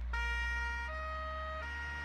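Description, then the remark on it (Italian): An emergency vehicle siren blares steadily, alternating between two tones, its bright wail sitting over a constant low engine or traffic rumble; no voices are heard. “Le sirene.”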